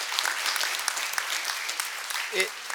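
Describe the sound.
A crowd applauds steadily, with dense overlapping claps at a fairly even level throughout, and a short voice rises briefly above the clapping near the end.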